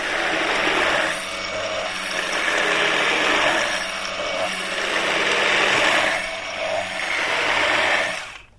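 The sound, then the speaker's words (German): An immersion blender grinds dry oat flakes into flour for cookie dough, with a loud, continuous motor whir and gritty churning that swells and dips in several surges over about eight seconds, with no talking. “Die mixst du so lange, bis sie zu Mehl werden. Ich habe das mit einem Pürierstab gemacht.”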